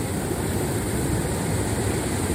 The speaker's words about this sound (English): It's kind of like a creek. Obviously, it's fast-moving water. As you guys can see, the waterfall is behind me.